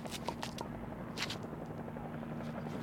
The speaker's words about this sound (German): Nanu, wo kommt denn der Hubschrauber her? Den kenne ich ja gar nicht. Von der Küstenwache ist er nicht. Unsere Hubschrauber sehen anders aus. Da steht auch was dran.